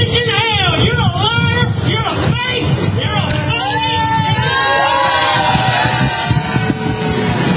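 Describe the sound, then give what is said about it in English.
A displeased crowd at a rally on the grounds of the state courthouse in Oklahoma City, around the Satanic Temple's Baphomet statue, shouts and jeers at a man speaking in a loud, continuous din, many overlapping voices rising and falling, with some higher-pitched yells cutting through the steady roar. “So you could hear the crowd obviously was not pleased with what he was saying and did support law enforcement escorting the man out.”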